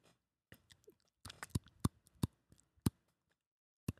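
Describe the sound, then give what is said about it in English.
Teeth chomp together in a quick, irregular series of sharp clicks, about a dozen in all, with no talking, a mouth imitation of ice cubes clinking in a glass of iced tea. “I was trying to think of how I could make like a clicking noise. So I just like chomped my teeth together.”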